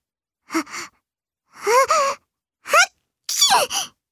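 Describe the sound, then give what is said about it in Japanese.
A narrator acts out a sneeze by the story character Momo: three short, rising breathy build-up sounds, then a louder burst at the end. It is clear, with pauses between each part and no other talking. “くしゃみをしたモモを見て、キキが面白がってからかいました。”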